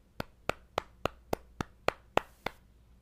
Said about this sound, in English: Let's have a round of applause for Treasure.